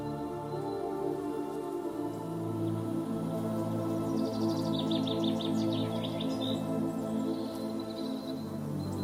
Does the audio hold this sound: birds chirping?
yes